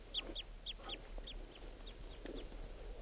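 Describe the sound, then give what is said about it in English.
A wild bird's flight song and calls as it approaches the net area: a quick series of about nine short, high, down-slurred chirps in a steady rhythm, growing fainter toward the end over a low background hum. “Flight song and flight calls, and he's approaching the net area.”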